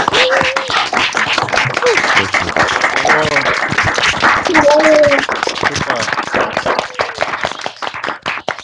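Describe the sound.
A dense patter of many people clapping at once, steady and lively throughout, with scattered voices and whoops mixed in, from participants who open their microphones to applaud the Porsche team for its week.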